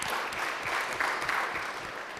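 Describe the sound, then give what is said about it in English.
A conference audience applauds the AV support staff steadily, a dense wash of many hands clapping at once with no pauses, fairly loud and sustained throughout, with no voices standing out. “So let's give them a round of applause too.”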